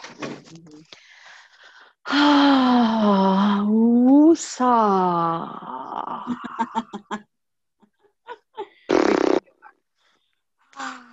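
Long, wheezy, strained vocal sounds give way to choppy gasps and a couple of heavy, breathy inhales and exhales, like someone catching their breath after a laughing fit.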